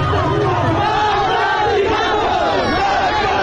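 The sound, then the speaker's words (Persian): A large crowd at a Friday protest in the streets of Zahedan chants slogans in unison, including "Death to Khamenei" and "Death to the IRGC", many voices shouting together loudly and continuously, forming a dense, rough roar of massed shouting. “این جمعه هم فریاد مرگ بر خامنه‌ای و مرگ بر سپاهی خیابان‌ها را پر کرده بود. و شعارهای دیگر.”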